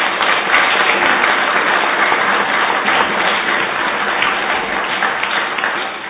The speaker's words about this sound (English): So I would really like us all to applaud the students.